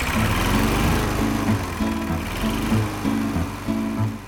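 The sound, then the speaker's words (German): A lawn mower engine runs steadily and loudly for a few seconds while mowing tall grass on a meadow on a warm summer day, its droning hum rising and dipping slightly in pitch, with no voices. “Flugs in den Freizeitanzug rein und den Rasenmäher starten.”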